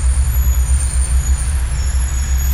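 A bus idles, its engine throbbing in a steady low pulse under a thin, continuous hiss of air brakes. No voices, just the loud, rumbling vehicle.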